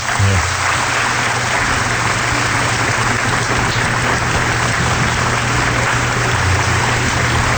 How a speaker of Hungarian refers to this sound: És hát egy tapsot még neki.